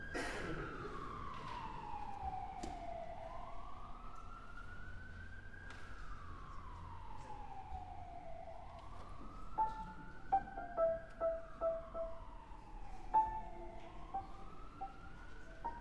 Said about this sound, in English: I'm trying to find out what key that whistle's in, but I can't do it.